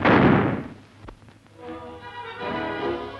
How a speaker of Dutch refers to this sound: De geweren werden geladen met kogels, niet met hagel, want er zou op groot wild geschoten worden. Daar klinkt het eerste schot reeds.